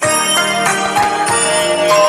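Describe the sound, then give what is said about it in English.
A short, loud burst of the EastEnders television soap opera theme tune, played as a quiz sound: bright, ringing bell-like tones over sustained harmonies, punctuated by steady percussive hits, with no voices. “It's EastEnders. Brilliant theme tune.”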